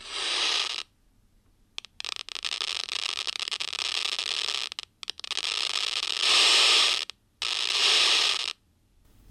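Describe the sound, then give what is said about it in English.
Seizure-like activity of cultured neurons in electrode array dishes in an incubator, recorded and played through a loudspeaker: dense crackling static swelling into several loud, harsh bursts separated by brief silences, with sparse popping clicks in the quieter stretches. “And this is what it sounds like when you take those recordings and hook them up to a loudspeaker.”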